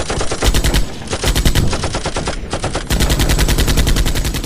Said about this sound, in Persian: همچنان دارن تیراندازی می کنن. بوی شدید باروت نفس کشیدن و مشکل کرد.